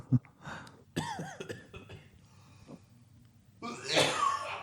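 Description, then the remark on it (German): Loud, close-up coughing: a sharp burst near the start, a strained, throaty stretch, then a harsh, forceful cough fit right at the microphone. No one speaks. “Vielleicht hust du auch nicht direkt ins Mikro, das wäre halt schön, weil ich nämlich dann auch deinen Husten 3D im Ohr habe.”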